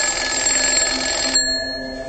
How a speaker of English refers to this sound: And with hairs on its body that detect vibrations, the fly sensed the alarm clock was about to ring.